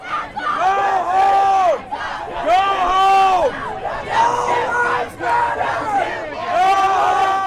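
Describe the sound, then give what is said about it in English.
A large crowd of counter-protesters yells and shouts together at the other side while waving American and Trump flags, many voices overlapping in loud, sustained bursts with swooping pitches, briefly dipping between waves of shouting before surging again. “Counter-protesters waved American and Trump flags at the other side, yelling.”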